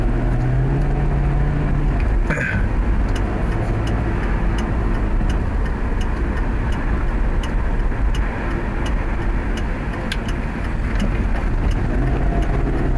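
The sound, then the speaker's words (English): Steady, loud road rumble and engine drone of a car driving along a city street as the driver switches lanes and slows down by at least 10 miles an hour, with faint regular ticking clicks running through most of it and no talking. “You just switched into the lane in front of you, so you had to slow down at least 10 miles an hour because he decided to not only pull in front of you, but he did it without his fucking signal!”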